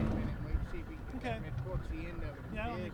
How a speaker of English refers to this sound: I'm on a boat with two of them.